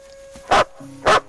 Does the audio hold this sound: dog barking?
yes